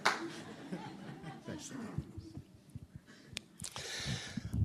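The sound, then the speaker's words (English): An audience breaks into brief, scattered clapping mixed with a few chuckles, swelling louder toward the end, with talking heard underneath. “Give him a clap.”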